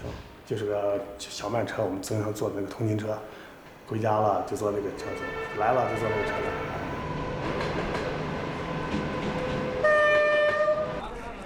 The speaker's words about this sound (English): This green train stops at every small station. It also brings in fresh vegetables and staples like rice and flour.